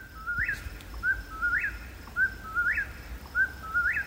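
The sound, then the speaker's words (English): An eastern whip-poor-will sings its rapid, repeated three-note whistled phrase over and over, clear, against a faint low background hiss with no voices. “I'm not great at identifying bird calls, but even I know that one's the whippoorwill.”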